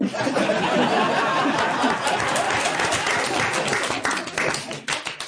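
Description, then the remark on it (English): Sustained audience applause, a dense steady wash of many hands clapping at even loudness, with some chatter and light laughter mixed in, thinning slightly toward the end. “Well, I nearly joined in with that applause”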